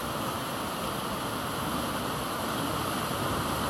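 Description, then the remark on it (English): A constant, dense, loud roar of the River Wharfe at the Strid, churning steadily without pause as the wide river is forced through a narrow gap between rocky banks where rocks overhang. No voices are heard. “And as the water channels its way through, it's churned up and crashes through this narrow gap.”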